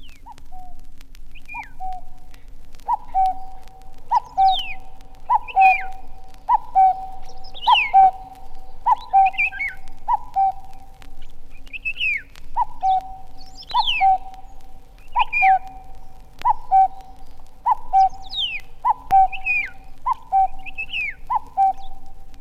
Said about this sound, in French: Que serait la forêt sans les voix du coucou et du loriot qui nous annoncent l'arrivée du printemps ?